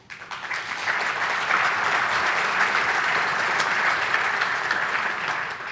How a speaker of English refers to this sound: Dr. Sagai and the trustees really applauded for that.